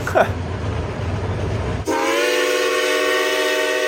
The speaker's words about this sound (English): Cass Scenic Railroad in West Virginia has the largest collection of running locomotives.